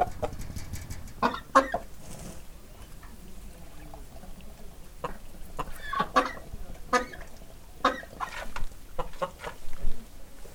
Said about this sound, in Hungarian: És egy hatalmas nagy kakas jön ide, nem akar.